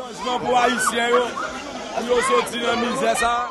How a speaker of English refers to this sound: As Martelly cast his ballot at a public school, a huge crowd formed.